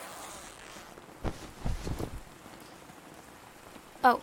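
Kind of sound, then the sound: nature, steady rain falling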